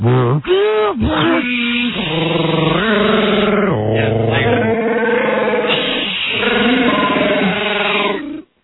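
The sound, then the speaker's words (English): A person vocally imitates a dial-up computer modem, plugged into the phone line, initializing and connecting: about eight seconds of loud, continuous warbling tones with quick sliding whoops at the start, then stepped, buzzy pitches that shift up and down. “And then by the time it gets going, I plug it into the phone thing, and it's like, I got to... initialize the modem, right.”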